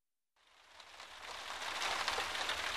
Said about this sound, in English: Lucy is bored with the weather. It's raining.